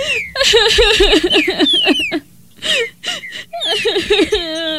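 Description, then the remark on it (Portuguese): Someone cries and whimpers in pain, with wavering, high-pitched sobbing in several bursts broken by a short pause, loud. “Longe se ouve um canto de dor.”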